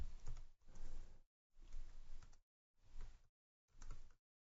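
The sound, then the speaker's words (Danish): Quick bursts of typing on a computer keyboard, five short flurries of clicking keystrokes broken by brief pauses, fairly quiet with no talking, as someone types "modul 1" while editing a web page. “Går ind og redigerer, og så kan jeg igen skrive modul 1.”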